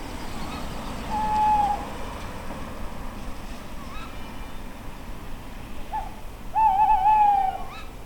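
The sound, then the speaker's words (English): Owls hoot at night, heard while walking home: a short call near the start, then a longer quavering hoot later, clear over a steady low rumble of background noise. No one speaks. “I walked home that night, listening to the owls, feeling intrigued, sad, and surprised at where my curiosity for the sounds of the town had led me.”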